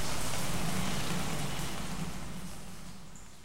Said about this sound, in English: Finally, the rain stopped.